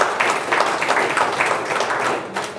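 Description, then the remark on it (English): A church audience breaks into steady applause for the Lord during a sermon, dense overlapping claps forming a continuous, fairly loud wash of sound for a few seconds with no voices standing out. “Give the Lord a hand of applause in the mouth.”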